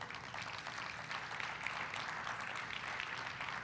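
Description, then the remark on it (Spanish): An audience applauds the Lord at a church service, many hands clapping in a dense, continuous patter that holds at an even level throughout, with no voices standing out. “¿Puedes darle un aplauso al Señor?”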